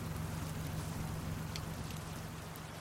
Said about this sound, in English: canting his head and watching as I sped away in the pouring rain.